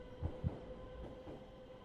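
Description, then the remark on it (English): An underground train rumbles by with a steady low roar, two heavy clacks of wheels over the rail joints early on, then a continuous muffled rumble. No one speaks. “And as a tube train thundered by, seated by the window,”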